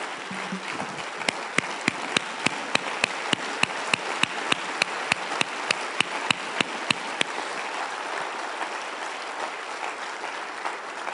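An audience claps to the Lord after a sermon, a dense wash of applause, with sharp, evenly spaced claps cutting through for the first several seconds before the sound settles into a steady, fainter patter.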